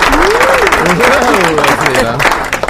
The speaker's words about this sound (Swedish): Här är fullt med folk i studion som klappar. Ja, de står här bara och väntar på att få klappa lite.